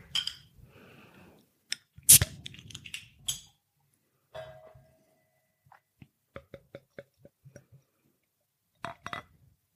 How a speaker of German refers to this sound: Dann würde ich sagen, mache ich die Flasche doch mal auf.